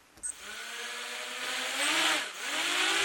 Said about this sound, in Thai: อากาศยานไร้คนขับหรือโดรนบินร่อนไปทั่วห้องประชุมภายในมหาวิทยาลัยวอชิงตันที่นครซีแอตเทิลรัฐวอชิงตันเพื่อเป็นส่วนหนึ่งของการเรียนการสอนในห้องปฏิบัติการระบบอากาศยานอิสระ